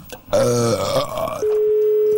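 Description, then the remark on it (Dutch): A single drawn-out, low guttural pig grunt lasting about a second, loud and throaty, followed immediately by a steady, unbroken electronic tone that holds to the end. “Een varken.”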